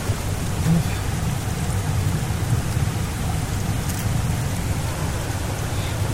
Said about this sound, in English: Oh, look at the water coming down over the rocks.